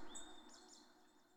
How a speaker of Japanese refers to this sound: イメージして、鳥たちの声が響く澄んだ空気の